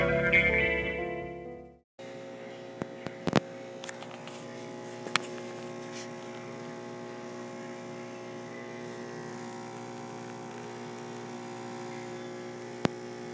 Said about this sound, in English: Ladies and gentlemen, what you just heard was the sound of a very high-tech espresso machine found here at this particular hotel. I think where we're at is called the Court of Ale.